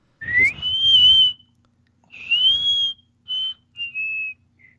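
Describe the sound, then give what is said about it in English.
A series of very high-pitched whistles: two long sustained tones rising and holding, then three shorter bursts tapering off, fairly loud with some low rumbling noise underneath. “It's a very high-pitched whistle.”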